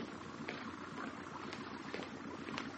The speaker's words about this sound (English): Oh, it's an engine. A motorboat on the canal. And it's stopping. It's going to tie up.